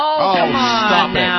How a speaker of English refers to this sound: That just went, that is eerie. That is haunting. That's exactly what it sounded like. That's Exactly. You'll be haunting my dreams. Wow. Okay. Wait a minute. That's a cat in heat?